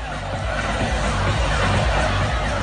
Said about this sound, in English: Memorial Day weekend, the unofficial start of summer, brought out crowds not seen in months. This video shows revelers packed in a pool at the Lake of the Ozarks in Missouri.